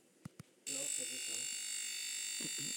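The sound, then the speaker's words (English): Two quick clicks, then a loud electronic alarm starts abruptly and holds a steady, harsh buzzing tone without a break, while a voice talks quietly beneath it. “Right, this is the alarm.”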